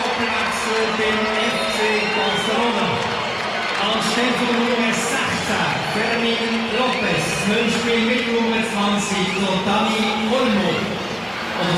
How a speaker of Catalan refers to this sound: Aquests canvis, Rafinha i Fermín marxen, entrarà Lamine, que ara sentirem la ovació, evidentment, de cap al jugador de Mataró, i també entrarà Dani Olmo. Escoltem l'ovació.